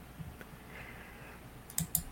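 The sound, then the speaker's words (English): A few sharp keyboard clicks and keystrokes, fairly quiet, as a woman works on her computer system during a technical problem, with two crisper taps near the end against a faint background hum; no one speaks. “I can hear the clicking.”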